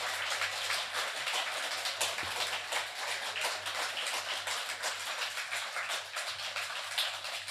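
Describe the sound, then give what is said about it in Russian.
A crowd claps steadily and continuously, a dense crackle of many hands with no pauses or voices for the whole stretch. “Слушайте, ребята, вы так хлопаете, я ведь могу подумать, что вам реально нравится.”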